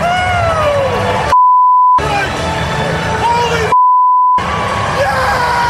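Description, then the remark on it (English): Hockey players, including Tyler Boza and Jaden Schwartz, yelling and screaming in loud celebration, continuous, with two steady electronic bleeps cutting in over the noise about two seconds apart. “And more celebrations and more screaming.”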